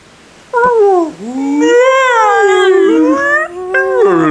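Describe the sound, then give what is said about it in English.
Whale calls: long, mournful tonal moans that swoop up and down in pitch, loud, running almost continuously for a few seconds with no talking. “The whales! Oh no, the whales! The whales want to vote.”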